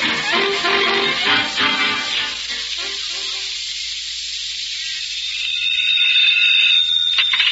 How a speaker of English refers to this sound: We've got a general alarm.